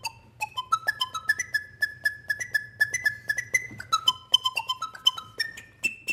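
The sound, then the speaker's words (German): A breathy, whistle-like flute tone plays a stepwise melody of sustained and short notes, over a steady low motor hum. The instrument is a vacuum cleaner with its motor reversed so it blows instead of sucks, and its metal tube turned into a flute. “hat den Motor im Staubsauger einfach umgedreht, sodass der nicht mehr saugt, sondern pustet. Und die metallene Röhre hat er zu einer Flöte umfunktioniert.”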